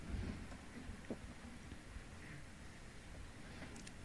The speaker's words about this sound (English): And it's in the middle of the monsoon rainy season. And now it's raining outside, I can hear. This rain in New York is compared to the monsoons in Orissa state of India, it's very mild.